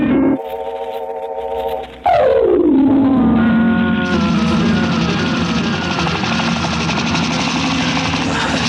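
The engines of the aircraft Albatros warming up at a private airport: a steady layered whine gives way to a sudden surge whose pitch slides downward, then settles into a loud, constant roaring drone with a humming tone on top.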